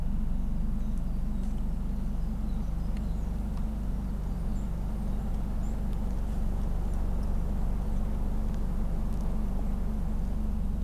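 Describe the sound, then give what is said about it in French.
Wind roars steadily through the whole stretch, a dense low rumble that never lets up, with only a few faint high ticks above it and no voices. “Le bruit de fond que vous entendez, c'est la clameur du vent.”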